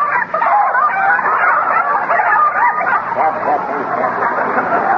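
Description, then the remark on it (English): A flock of chickens squawks and clucks frantically as they are chased out of a garden, a loud, dense, overlapping racket of agitated cries for the whole stretch with no pause. “Oh, say, that's a nice bunch of chickens you've got there. Oh, my gosh, they're in again.”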